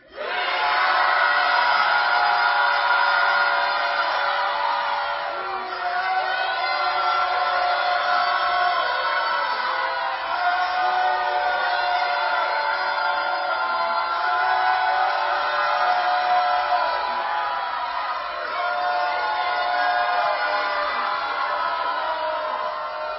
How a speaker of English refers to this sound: That was so good. Way to go. Do you hear the roar in that?